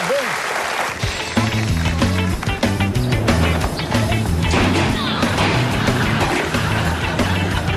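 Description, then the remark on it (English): A studio audience breaks into loud, sustained applause and cheering for two people being congratulated, filling the whole stretch, with a bouncy musical bass line kicking in beneath the clapping after a second. “Give it up for”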